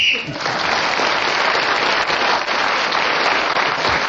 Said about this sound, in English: Well, when Ian Messiter blows his whistle, he tells us 60 seconds is up, and whoever is speaking at that moment gains an extra point.